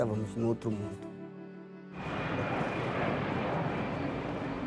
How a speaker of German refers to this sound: Als das Flugzeug zum Landeanflug ansetzte, wurde uns klar, dass wir bereits in einer anderen Welt angekommen waren.